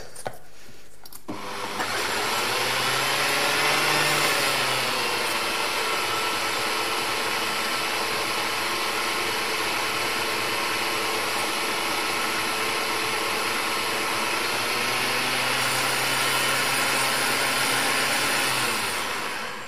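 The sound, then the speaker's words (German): A blender motor starts up after a brief pause and whirs loudly and steadily for the rest of the time, mixing a cocktail with a little added water, its pitch wavering briefly as the contents churn. No one speaks. “Okay, lass es noch ein bisschen mixen.”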